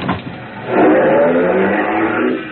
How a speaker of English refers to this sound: I was trying to hail one to follow her when a black coupe pulled up to the curbing.